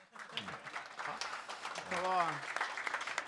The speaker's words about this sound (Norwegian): Han fortjener også en applaus.